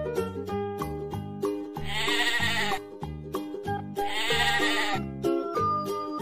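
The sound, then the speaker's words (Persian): Two long, wavering sheep bleats ring out loudly over a bouncy, rhythmic musical backing, each bleat lasting about a second with a trembling, nasal quality. “پشماشو میتراشیم تا بابایی خنک شه، پشم اونم واسه ما یه لوح و فتوشک شه، یا شایدم بلوز شه برای فصل سرما.”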